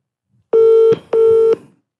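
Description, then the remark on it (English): Two steady electronic ringback tones from a phone call, each lasting about half a second with a short gap between, loud with no talking over them. “If she doesn't answer, the phone has just gone down.”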